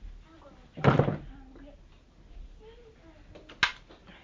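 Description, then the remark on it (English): A door shuts with a solid thud, followed a few seconds later by a sharp, brief click or knock. Faint voices murmur quietly in the background. “All right, you want me to close the door?”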